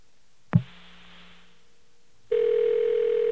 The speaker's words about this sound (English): All right, let's give that number a call and see if we actually are able to get to the White House here. No, I'm going to fade it down while I dial the number two. I'm no fool. And hopefully it won't hang up on us and we will actually get through.